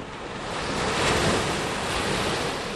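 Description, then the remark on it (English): Ocean surf rolls steadily onto the shore on the coast near Rebecca Clausen's house, a broad continuous wash of breaking waves that swells slightly in the middle, with some wind rushing across the microphone and no voices. “We're on the coast near Clausen's house”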